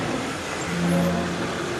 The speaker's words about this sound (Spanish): Cristina aparca frente al portón de entrada.